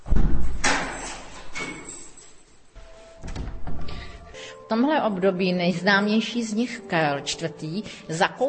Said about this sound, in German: öffnet die Tür zum Raum im Schloss, in dem man sich mit Sbirochs Geschichte in der Gotik bekannt machen kann.